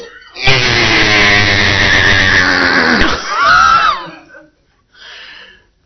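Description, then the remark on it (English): A voice imitates a baby screaming for food: a long, loud, strained wail lasting a few seconds, then a shorter wavering cry, and a faint trailing sound after a brief pause. “When they want something, they scream with their whole heart, I want food.”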